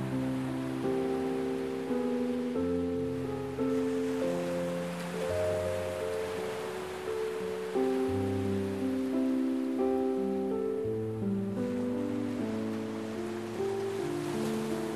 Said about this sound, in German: Du bist ganz entspannt und kannst einfach nur die Melodie des Meeres genießen.